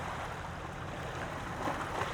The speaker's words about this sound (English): Right now I'm sitting on Kitts Beach on a kind of a windy, sunny day, April 15th, 2022.